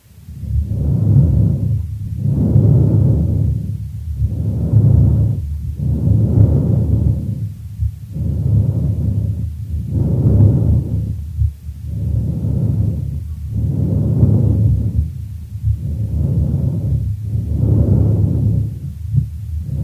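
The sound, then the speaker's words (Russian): Laryngotracheal breath sounds recorded through a stethoscope over the thyroid cartilage of the larynx: about ten loud, harsh, hollow breaths in a steady rhythm, each inhale and exhale blending into a rushing surge, with no talking. “Прослушайте ларинготрахеальное дыхание, зарегистрированное в области щитовидного хряща гортани.”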